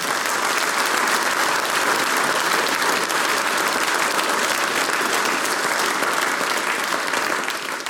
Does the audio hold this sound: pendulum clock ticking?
no